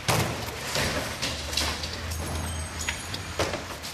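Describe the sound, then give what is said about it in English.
Workers hurl doors, cabinets and broken wallboard out of seven-story windows into dumpsters outside a public housing tenement being torn down in Chicago's South Side: several irregular heavy thuds and bangs over a steady low rumble of machinery. “workers hurled doors, cabinets, and broken wallboard out seven-story windows into dumpsters.”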